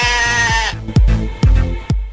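A sheep bleats: one long, wavering cry followed by three shorter bleats spaced about half a second apart, loud and clear with no voices.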